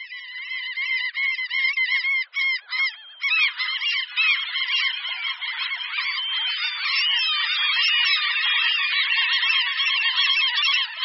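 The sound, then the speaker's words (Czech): A chorus of common gulls (Larus canus) calling, with many overlapping harsh, nasal cries in rapid succession, loud and continuous as if from a busy flock, with no voices. “Ano, je to tak, byly to hlasy racků bouřních, vědecky nazývaných Larus canus.”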